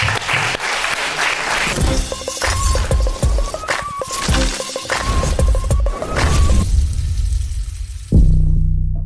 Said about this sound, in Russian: Аплодисменты, ребят.